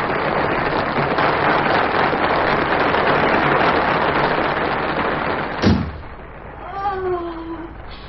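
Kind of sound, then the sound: crowd, theatre audience applause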